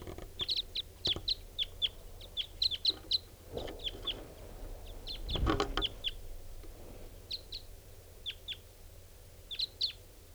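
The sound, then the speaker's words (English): Wild birds, including some type 5s, calling as they fly in, recorded at 6:54: short, high-pitched calls sound repeatedly in quick clusters, sharp chips coming in irregular bursts over a quiet background with a brief low rumble midway. “All birds are coming in, including some type 5s.”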